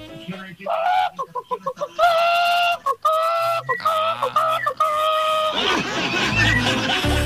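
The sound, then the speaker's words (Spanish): A person imitates a clucking hen in an animal imitation contest: a quick run of short, throaty clucks, then longer drawn-out squawking calls, ending in a burst of noisy, rough sound. “No, esta tiene que ser alguna gallina de supermercado.”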